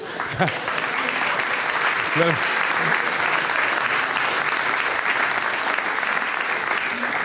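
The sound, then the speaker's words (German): Sustained audience applause for a choir leader, a steady dense wash of clapping at even loudness throughout, with a few brief voices calling out near the start. “Sie nickt und stimmt mir voll und ganz zu und bekommt jetzt einmal einen großen Applaus, nämlich die Chorleiterin des Veitstallgesangs,”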